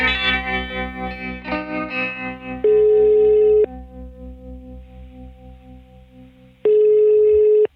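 An outgoing call's ringback tone: two steady, loud one-second beeps separated by a long pause, heard over softer background music and electronic effects that fade away.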